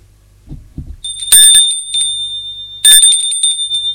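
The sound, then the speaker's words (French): An apartment doorbell rings twice with bright, sustained metallic tones that ring out, preceded by a couple of soft low thumps; no one speaks. “Il sonne plusieurs fois.”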